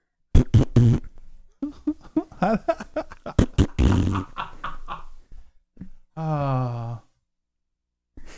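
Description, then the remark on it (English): A rapid string of loud fart sound effects: short sputtering blasts in quick succession, then a longer, wavering buzzy fart that trails off before one last brief burst. “You gonna pull up fart noises?”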